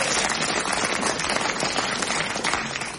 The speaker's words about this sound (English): Is that a clap? Yes. Big hand, please, for Giles Brandreth.